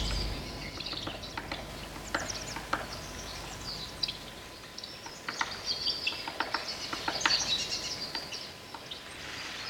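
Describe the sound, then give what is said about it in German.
Many birds chirp and twitter continuously, a busy overlapping chorus of high, quick calls with no voices, recorded in Warsaw, Poland, in the Galeria AA and a pet shop called Exotica, for the piece Ptaki by artist Andrzej Mitan. “Vogelgezwitscher, diesmal aus Polen”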